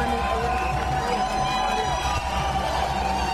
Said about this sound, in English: Why are they cheering?